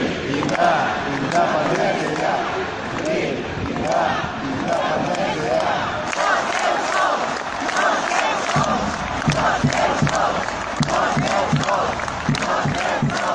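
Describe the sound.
A large crowd, mostly retirees, shouts and chants "no estáis solos" ("you are not alone") together, a dense, continuous roar of many voices that stays loud and steady, with rhythmic bursts of yelling rising above the din.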